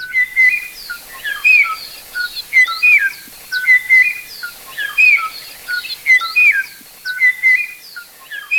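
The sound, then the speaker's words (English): The last known Kauai o'o, a forest bird of the highest forest near the top of Kauai, Hawaii, recorded in the 1980s, sings alone, repeating short, clear whistled phrases in a steady rhythm about once a second, distinct, with no voices present. “A very small population of this species made it into the 1980s in the highest forest near the top of Kauai, when the last known individual was recorded singing its beautiful and haunting song to a mate that no longer existed.”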